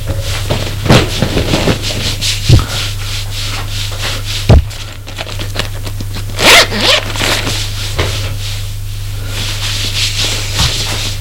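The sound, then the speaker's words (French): A man hurriedly strips off his clothes in a room he has set up in an empty, ruined building: a zipper rasps open amid brisk fabric rustling and rubbing, with a few sharp thumps, all over a steady low hum. No one speaks. “Vite, il quitte ses vêtements.”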